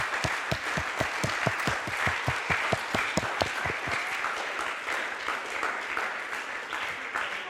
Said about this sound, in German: Deswegen lasst uns doch mal diesen Leuten einen tosenden Applaus geben.